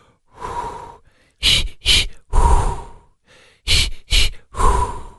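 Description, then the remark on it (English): Deliberate breathing in a demonstrated childbirth breathing technique: a long drawn breath, two quick sharp puffs, then another long exhale, the cycle repeated twice with no talking. “We all need some breathing techniques”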